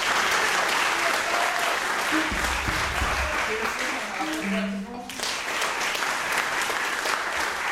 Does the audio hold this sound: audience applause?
yes